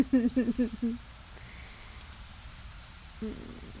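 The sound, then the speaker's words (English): Soft, steady rain hisses continuously in the background, with a person's voice briefly speaking over it at the start and again near the end. “As much as I would love to spend the day just curled up with you watching the rain fall, I do have to do work occasionally.”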